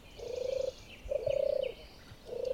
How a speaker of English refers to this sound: And they're from animals that are on the red list of endangered species in the UK. So the first one going to hear is the song of the turtle dove.